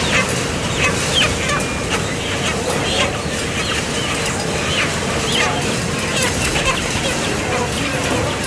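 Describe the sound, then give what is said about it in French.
A dense, continuous chorus of many chickens clucking and squawking at once in a confined slaughterhouse holding area under blue light, before being hung on the processing line. Fairly loud, over a steady background din with faint indistinct voices. “Cette lumière bleue, c'est surtout pour éviter que le poulet soit stressé avant d'être accroché sur la chaîne et surtout avant d'être électrocuté et saigné, parce que le poulet ne doit pas être stressé.”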